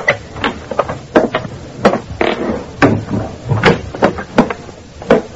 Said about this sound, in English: Then I quietly opened the hall door.